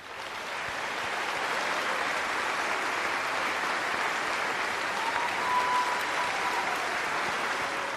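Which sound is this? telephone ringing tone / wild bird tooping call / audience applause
audience applause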